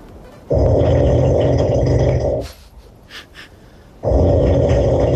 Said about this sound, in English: this was recorded last August. I know, but my snore is like that all night. Okay. You know, so was his. I was sleeping beside him. You ready? This is a bit bubbly. You hear it?